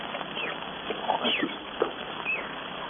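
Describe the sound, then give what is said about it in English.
Monkeys chatter in a dense jungle, scattered squeaks and sharp chirps popping up from several directions over a steady wash of background noise, never settling into a rhythm. “Monkeys, those crazy monkeys, I could strangle them.”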